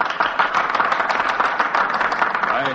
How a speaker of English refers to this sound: I hope the history books will record that applause, because much of it comes from senators who are going to vote in a few minutes for my removal from office.